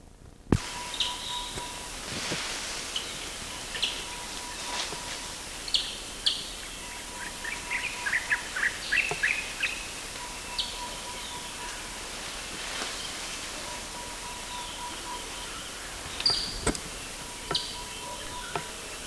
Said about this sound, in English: These are Ascanius chirps. I don't think they were directed toward me. They were given at a distance. About 30 meters.